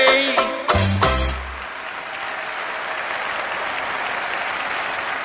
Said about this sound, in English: You can hear the terrific applause for the … song. And it looks like he's won it. Yes, yes, he's won it. This year's National George Formby Finals.